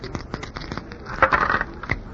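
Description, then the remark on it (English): Dice are thrown, rattling and clattering across a hard surface in a quick burst of sharp clicks, a brief louder tumble in the middle, then settle with a final tap, landing five and three for eight; fairly quiet. “It is not nice for a doll to be carrying dice. Look, what do you want me to throw?”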